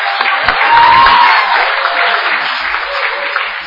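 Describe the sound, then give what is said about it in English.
An audience claps steadily throughout, a dense, even patter of many hands at a fairly loud, constant level, with a brief high whistle-like cheer near the start. “Oh, clap, why not?”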